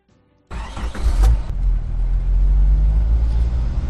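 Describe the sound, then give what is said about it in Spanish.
A car engine cranks and catches, then settles into a loud, steady idle with a deep low rumble, with no one talking. “Este proceso se repite miles de veces cuando encendemos el coche.”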